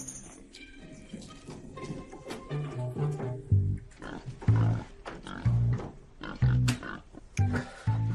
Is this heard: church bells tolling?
no